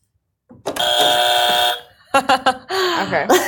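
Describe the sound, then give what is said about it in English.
A loud, harsh game show buzzer, used in a quick game of hot or not, blares once for about a second, then cuts off, followed by brief voices and vocal sounds. “If it's not, you get to use our annoying morning buzzer.”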